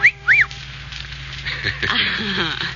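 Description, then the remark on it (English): Two quick, high human whistles: a short rising chirp, then a brief arched note. A rougher, noisy burst of sound follows after a pause. “Well, then you should have made the whistle shorter, like this.”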